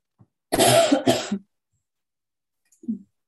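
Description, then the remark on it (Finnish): Two loud, harsh coughs in quick succession, then a short pause and a softer, low throat clearing. No talking. “No niin, täytyy yskiä ensin.”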